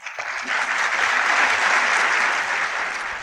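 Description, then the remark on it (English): Sustained applause from UN Security Council members after adopting Resolution 2334 on Israel's settlement activity (14 votes in favor, one abstention), steady and fairly loud, a dense patter of many hands clapping together with no talking over it. “That is the shameful sound of the UN Security Council announcing and then applauding the decision to call Israel's settlement activity illegal and thereby brand East Jerusalem, where President Obama himself prayed at the Western Wall”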